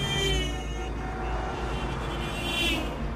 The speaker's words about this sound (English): On the highway, cars swerve out of the lane behind him to pass him, though he takes no notice.